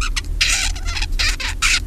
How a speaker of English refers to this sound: So you can hear the difference is that the babbling bird doesn't have this very precise repeated sound. In fact, what he does is quite random. It's very hard to find any two pieces of the babbling song that actually sound the same.